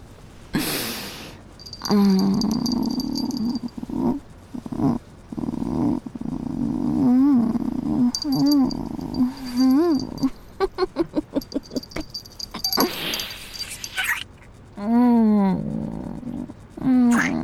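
A voice imitates a cat purring, with rolling throaty rumbles, rapid fluttering pulses and occasional rising meow-like chirps, continuing steadily with short breaks.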